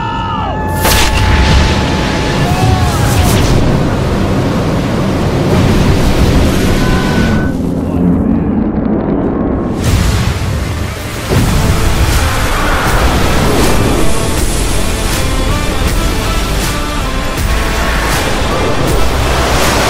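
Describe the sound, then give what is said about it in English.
A powerful, continuous roar of rocket engines at launch, loud, with deep rumbling and crackling bursts that swell and shift throughout, briefly dipping before surging again. “Engine start. Light the candle!”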